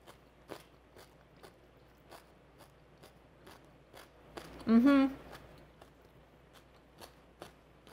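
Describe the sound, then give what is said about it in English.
Crisp crunches of addictive cabbage salad, seasoned with sesame oil and ground sesame, being bitten and chewed, sharp cracks repeating at an uneven pace, with a short voiced murmur partway through. “First of all, it has a terrific crunch. Hear that?”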